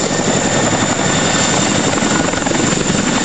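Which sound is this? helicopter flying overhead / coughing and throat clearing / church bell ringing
helicopter flying overhead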